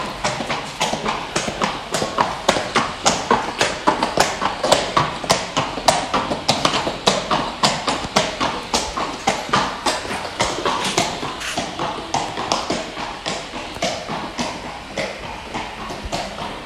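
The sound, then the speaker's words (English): Steady, rhythmic clip-clop of horse hooves on a hard floor in the army horse lines of the Royal Horse Artillery, fairly loud, continuing throughout with a busy, echoing background. “So we're now in the horse lines,”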